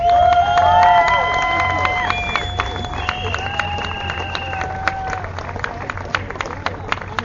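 A crowd breaks into steady, dense applause with loud cheering and high sustained whoops at the start, welcoming the woman of the year; the cheers fade after a few seconds while the clapping continues throughout.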